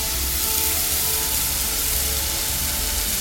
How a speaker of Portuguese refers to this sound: Eu vou colocar o tomate e eu adoro ouvir aquele chua quando entra o tomate na cebola quente. Deixa eu derramar.